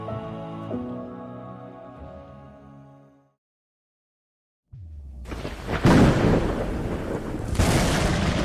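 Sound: thunder rumbling with rain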